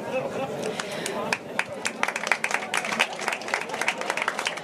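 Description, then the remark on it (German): Audience applause, a dense patter of many hands clapping steadily for several seconds, with sharp individual claps standing out, plus a faint murmur of voices underneath. “Applaus.”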